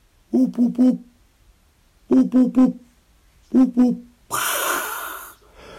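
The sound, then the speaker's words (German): A person standing in a meadow orchard with nest boxes imitates a hoopoe's soft hooting call as a signal to a hoopoe, in three quick bursts of low 'hup' notes, three, three, then two, followed by a long breathy hiss, fairly loud. “Und lauf hoch in die Streuobstwiese und stell mich dort oben hin und dann so, hup, hup.”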